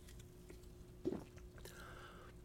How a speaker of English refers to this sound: Let me take another sip of 7-Up, zero sugar, lemon lime soda.